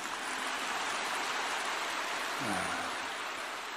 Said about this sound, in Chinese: 看见吗？稍微给你们讲了佛法深一点，鼓掌声音就这么轻。